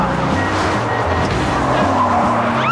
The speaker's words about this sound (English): Across the street at the end of the alley is a Christmas tree lot. Thorby speeds across the street, swerves around a car, and drives into the lot.